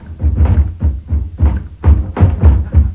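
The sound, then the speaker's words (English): Heavy, insistent thumping on a front door by some two dozen representatives of government bodies, about eight dull booming blows in quick, slightly uneven succession, loud with no voices. “Thumping on the front door at this precise moment are no less than 2 dozen representatives from various government bodies and from the Societies for the Prevention of Cruelty to Hens, Doves, Geese, Swans, Cows, Partridges”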